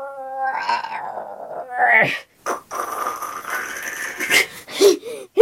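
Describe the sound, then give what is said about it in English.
A heavy boulder door of a cave grinds open: a rising, strained harmonic groan at first, then a long rough scraping rumble that surges in loud bursts before ending abruptly. “Now, opening the boulder door.”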